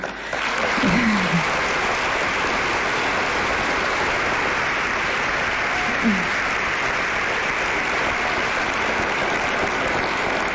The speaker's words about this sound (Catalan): Que bé que aplaudiu això, que s'entengui, que és important també com a mare soltera.